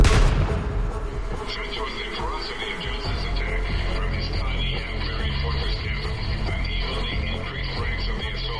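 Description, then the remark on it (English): Loud rifle and shotgun gunfire opens with a sharp blast, then continues as a dense, sustained barrage of shots and booming rumble throughout, intense. A man fires a rifle and shotgun from a fortified cabin at a surrounding posse. “Little did they know, Johnson had fortified the cabin, firing his rifle and shotgun at the posse.”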